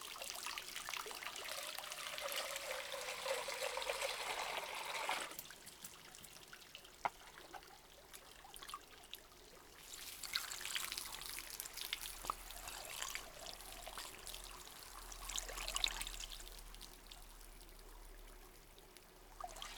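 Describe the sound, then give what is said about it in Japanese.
Hot spring water poured out in three splashing, hissing bursts, rinsing shampoo foam off, separated by quieter pauses with faint trickling; soft overall, no voices. “ャンプーの泡をシワシワの温泉で流しましょう”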